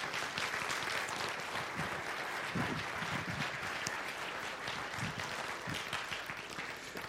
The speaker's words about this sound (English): So would you welcome with me, we had three in the first service, would you welcome with me three people up here on the stage that we want to share with in baptism today. Would you give them a big, bold round of applause?